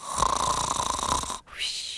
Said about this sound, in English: On this night, Bumbler is snoring away.